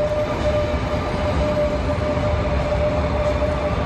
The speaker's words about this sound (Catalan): És un tren tímid, solitari, de l'R3, va en direcció cap a Ripoll, procedent de la Garriga. Avui s'ha reprès el servei de Rodalies per aquesta línia, però molt a mig gas, amb només la meitat dels combois que hi hauria d'haver.